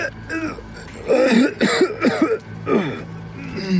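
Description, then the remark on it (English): A person performs a string of strangled, choked coughs, several rough voiced bursts in an uneven rhythm, fairly loud, with no other talking. “Disoriented, I squint my eyes against the sudden light, and I try to scream again, but it just comes out as a strangled cough.”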